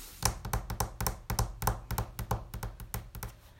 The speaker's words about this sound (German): Wenn ich sage Anna, tippen wir mit unseren Fingern auf den Tisch.